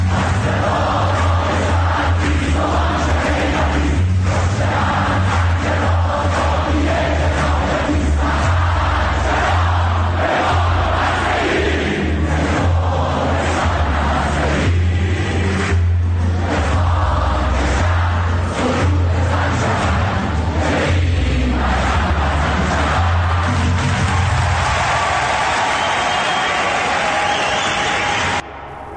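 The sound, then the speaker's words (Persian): A large crowd chants slogans in unison at Sharif, loud and sustained, with rhythmic rising and falling waves of many voices and a low rumble underneath, continuing for the whole stretch. “شنیدید تو شریف چی میخوندن؟”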